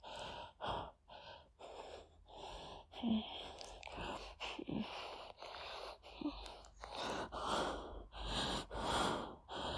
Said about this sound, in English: You kiss me. I feel that little hum of pleasure in your throat, your chest. You start breathing through the kiss.